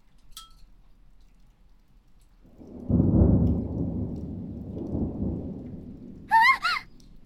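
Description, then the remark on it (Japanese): A deep rumble of thunder during heavy rain rolls in after a quiet start, swelling loudly and lingering for several seconds, with a few sharp high chirps near the end. “雨が強いと思ったら雷が…”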